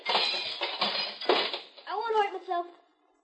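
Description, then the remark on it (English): Loud clattering and tinkling of glass being knocked out of a window after a kid, standing on a policeman's shoulders, smashed it with the policeman's nightstick, a dense run of sharp crashes and clinks with a few harder hits, followed by a brief spoken voice. “But knock out all the glass so you won't get hurt.”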